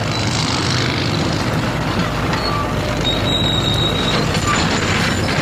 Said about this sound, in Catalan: Sol ambient de les obres que es fan a Palamós, i és que des d'ahir la tarda es va començar a asfaltar un tram de la Ronda de l'Est que seguirà tancada fins divendres i s'aprofitarà per asfaltar un tram del camí de l'església de Sant Joan.